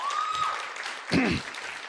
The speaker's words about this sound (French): Si on peut vraiment, vraiment encore applaudir